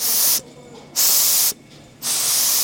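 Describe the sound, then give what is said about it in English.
Three loud bursts of steam hissing from an iron on a large steam bed, steaming a knitted sample, each lasting about half a second with brief pauses between, harsh with no voices. “When you are finished making your prototypes or knitting your samples, you would bring them over to the large steam bed and you would take the iron and then steam the sample to relax it and see what the finished garment would look like.”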